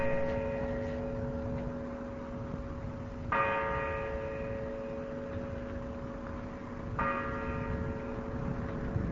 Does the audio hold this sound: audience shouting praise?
no